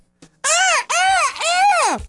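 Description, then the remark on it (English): A peacock calls loudly three times in quick succession, each cry a piercing, nasal wail that rises and falls, with no talking. “But man, them damn peacocks.”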